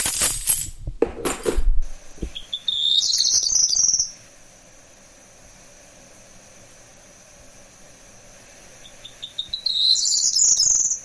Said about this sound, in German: Ja, also es gibt auf jeden Fall, ich fand das jetzt nicht 1:1, aber du hast schon recht, es hat eben diesen hohen, sehr zwitschernd, aber schon fast so, es erinnert mich auch ein bisschen an einen Rotschwanz, ganz wenig.